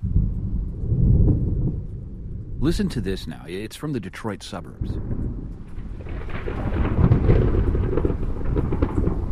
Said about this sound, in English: sent this bit of sound after our discussion yesterday about the difference between sound and noise recorded on a rainy, dark day. What is that, sound or noise?